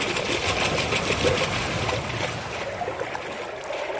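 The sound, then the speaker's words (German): A strange, high-pitched whirring drones steadily underwater while snorkeling along a reef, a bright buzzing tone over a dense, rushing wash of water noise that holds at an even level for about four seconds, with no voices. “Plötzlich vernahmen sie ein seltsames, helles Surren.”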